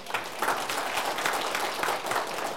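A crowd claps steadily in sustained applause given to God, a dense wash of many hands with small swells in intensity, at moderate loudness and with no voices over it.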